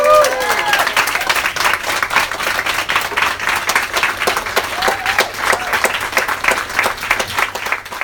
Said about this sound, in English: Staff in the Reuters newsroom gathered around the television and erupted into applause as they finally saw their colleagues take their first steps as free men.